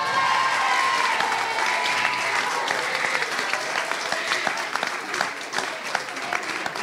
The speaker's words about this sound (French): Bravo, félicitations. Dans l'épreuve du bafouloir, vous pouvez applaudir s'il vous plaît très fort le collège Victor Prouvé.